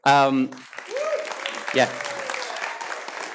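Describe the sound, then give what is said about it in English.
A brief voice gives way to an audience clapping to thank the children's workers, a steady, dense crackle of applause that holds for a few seconds while a couple of short vocal sounds rise over it. “You can clap.”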